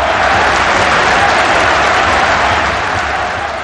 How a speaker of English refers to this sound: The crowd cheered.